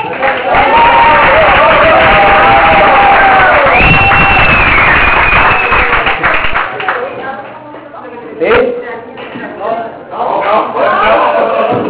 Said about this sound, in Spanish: Y aplauso.